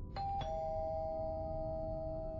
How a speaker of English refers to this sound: He was awakened the next morning from a restful sleep by the sound of the front doorbell.